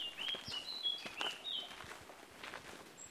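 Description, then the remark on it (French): Faint, brief whistled bird notes sound intermittently in the distance over quiet outdoor ambience, with soft footsteps or rustling crunching close by. “Blackbird. Merle Prieto. Merle des Açores.”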